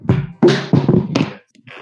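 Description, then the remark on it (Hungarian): A microphone falls to the floor: a cluster of loud, boomy thumps and clattering knocks in quick succession, then a brief quieter rustle as it settles. No one speaks. “Mikrofon leesett a földre.”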